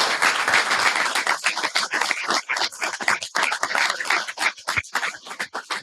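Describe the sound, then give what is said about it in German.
An audience claps steadily for several seconds as a speaker is called to the front to give a talk about the Tagesschau: a dense, crackling wash of many hands with irregular bursts and no one speaking over it. “bitte kommen Sie nach vorne, Applaus und viel Vergnügen.”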